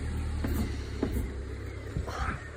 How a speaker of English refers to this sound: Hold on, here's a car.